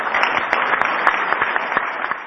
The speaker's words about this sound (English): And he gets applause.